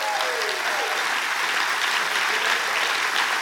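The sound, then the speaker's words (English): An audience applauding together, giving Jesus a big hand in the morning, steady dense clapping that holds at a constant loud level throughout, with no speech over it. “Let's give Jesus a big hand this morning.”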